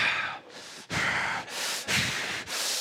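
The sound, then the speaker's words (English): Rapid, heavy breathing, with quick, harsh inhales and exhales alternating about twice a second in a tense, panting rhythm. No talking is heard. “And some of us, almost stressfully breathing.”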